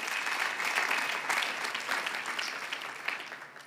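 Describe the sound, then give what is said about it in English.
A crowd claps steadily, giving the Lord a round of applause, a dense wash of many hands beating at once, loud and sustained before gradually tapering off toward the end, with no one speaking over it. “Come on, give the Lord a huge round of applause.”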